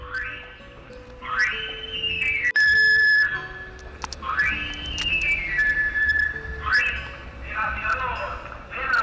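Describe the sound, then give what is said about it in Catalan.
A knife sharpener's pan-pipe whistle, from a sharpener passing through a village by bicycle or motorbike, plays three bright phrases, each a quick rising run of notes that settles into a long, slightly falling tone, over a low background murmur. “En bicicleta o en moto, l'esmolador passava de tant en tant pel poble, sobretot cap a la tardor o l'hivern, quan havia de fer-se la matança del porc i el veïnat havia de tindre els ganivets i les tisores ben esmolades.”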